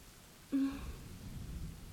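rain falling

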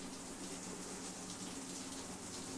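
shower water running

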